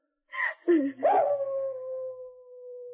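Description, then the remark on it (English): A few short, rising yelps lead into a single long, steady wolf howl drifting down from the top of a canyon, holding one pitch for a couple of seconds, clear, with no voices. “And then a strange, unearthly howl drifted down from the top of the canyon. Only a wolf.”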